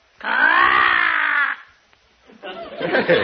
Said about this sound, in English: Oh, that's Arnold, our talking crow. A talking crow, huh? Let's hear him say something.